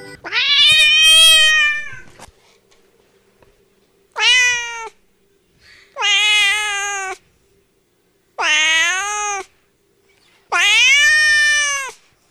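A cat lets out five loud, drawn-out yowling meows, the first long and wavering, the rest shorter and separated by brief pauses, with no talking.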